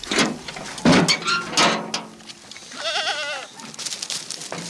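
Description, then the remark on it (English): A dozen sheep bleat amid a busy shuffle of hooves and clattering as they are released from a side gate and pushed along with a stick, with one clear wavering bleat standing out, and no one speaking. “releases a dozen sheep from a side gate and pushes them along with a stick.”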